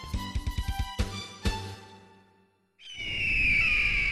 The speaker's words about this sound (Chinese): 哎，爸爸你快看，那应该是老鹰吧，在那么高的天空飞得那么悠闲，太帅了。